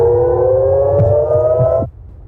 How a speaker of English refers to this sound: Sirens have sounded in cities across Israel, like this one in Haifa.